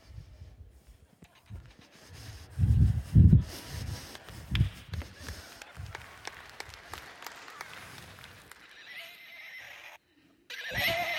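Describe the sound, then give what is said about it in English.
A horse whinnies loudly in a long, wavering neigh with snorting bursts, heard against a background of crowd noise and scattered clapping, ending with a brief pause and a final rustle. “I brought my horse with me.”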